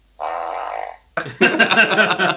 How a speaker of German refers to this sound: Also wenn ihr das im Verlauf der Sendung hört, wir können ein Spiel spielen. Wie viele Pupse hört ihr? Es kommt aber alles nur aus dieser Maschine natürlich.